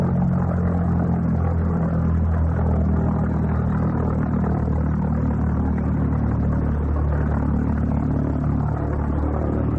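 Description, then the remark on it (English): A loud, steady droning engine of an unmanned plane, a kind of flying bomb, passing overhead, a rough low throb with a buzzing edge that holds constant throughout, with no voices. “Unmanned plane, sir. Its engine cut out shortly after it crossed the south coast.”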